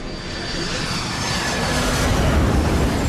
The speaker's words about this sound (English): The enormous plane turns onto final approach, and the runway lights of Goose Bay Airport swing into view.